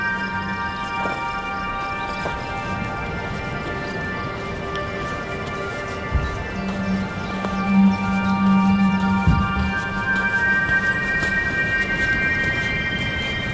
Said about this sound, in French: Comme vous pouvez l'entendre, des grillons, des oiseaux au bord de la plage.